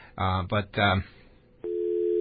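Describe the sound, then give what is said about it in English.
A voice speaks briefly, then after a short pause a steady, low-pitched telephone call tone begins as a call is placed to a special hotline abroad, holding at an even, moderate level until the end. “Now we're calling our special hotline that goes directly to where”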